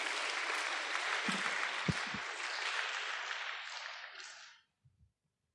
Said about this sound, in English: Can we please give them a big round of applause and welcome them to the stage?